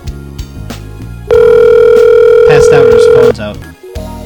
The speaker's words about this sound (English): The house phone ringing, trying to call Dr. Antonio on Mars.